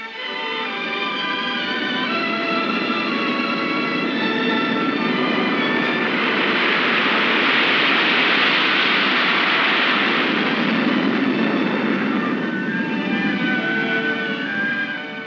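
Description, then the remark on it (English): B-52 jet bomber engines roar loudly and steadily for the whole stretch, a dense rushing blast with a high whine on top that swells as the aircraft passes by, then eases slightly. “Meet the B-52, most powerful bomber of them all. Its speed is a guarded secret, but it is in excess of 600 miles per hour.”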